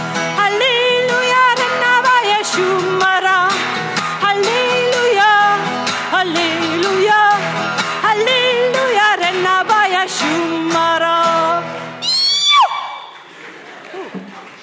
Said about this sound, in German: Das war eben der Kriegerschrei. Da habe ich mich extra ein bisschen weggewandt vom Mikrofon.